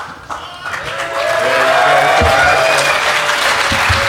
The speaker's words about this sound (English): So we have a first-time speaker. And judging by the round of applause, I take it you guys know what's going on.